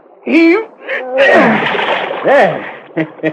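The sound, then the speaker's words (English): A totem pole is pushed into a river and splashes into the water, a broad rushing slosh lasting about a second, surrounded by short straining grunts and vocal effort from the people pushing it. “Now, lower your end into the water.”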